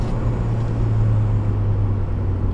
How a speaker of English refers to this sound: Let's say that I'm driving this car harder than you normally would.